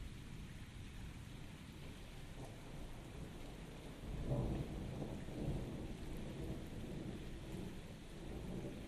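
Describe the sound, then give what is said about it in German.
Steady rain hisses throughout while a low thunder rumble swells around the midpoint and rolls on, deep, with no voices. “Zähle 21, 21, 21 von Donner nach Blitz.”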